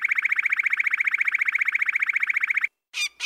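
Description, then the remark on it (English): A loud, rapid electronic-sounding pulse repeats evenly, about a dozen beeps per second, in a car alarm pattern. It stops abruptly, and after a short silence a different, harsher two-part burst follows. “And then it dawned on me that the pattern of the bird song was exactly like one of the parts of that car alarm sound that I hear all the time in New York City.”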